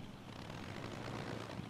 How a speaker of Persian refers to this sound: خانم ها و آقایان، FK33 یه هواپیمای سه موتور است که با ظرفیت 10 مسافر مسیر بین هلند و هند شرقی رو طی میکنه.